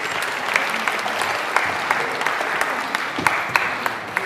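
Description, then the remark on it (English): An audience applauds the group who have just held up signs during a Christmas talk, a dense wash of many hands clapping at once with a few sharper claps popping out, sustained at a fairly loud, even level without any voices. “Let's give them a little round of applause.”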